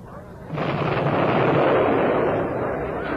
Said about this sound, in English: sounds like a real old battle going on back there. I can't think what's happening, sir.